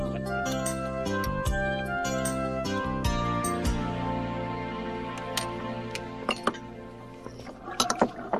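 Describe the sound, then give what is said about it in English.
Dishes and pans clink as they're being washed, with ringing metallic tones early on and a flurry of sharp clinks near the end. “Well, that's the last of the dishes.”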